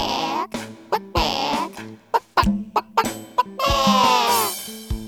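A hen clucks loudly: drawn-out calls broken by quick, sharp clucks, ending in a longer stretched squawk. No one speaks.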